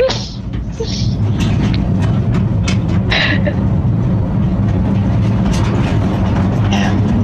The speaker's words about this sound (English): This seems to be you sort of riding through on this little train, right?